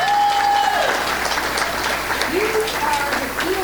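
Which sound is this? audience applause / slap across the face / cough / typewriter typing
audience applause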